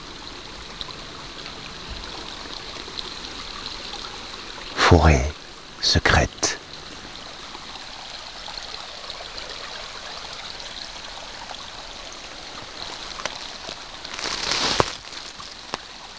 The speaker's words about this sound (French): Le clapotis de l'eau qui s'écoule lentement.